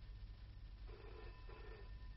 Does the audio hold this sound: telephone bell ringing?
yes